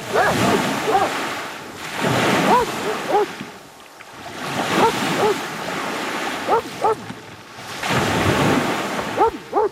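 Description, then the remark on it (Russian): Sea waves roll in and break on the shore in slow, repeated surges, each swelling into a broad hiss of surf before washing back, with wind rushing steadily underneath. “Он стоял неподвижно и смотрел на море.”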